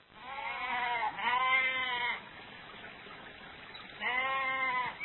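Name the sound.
goats and sheep bleating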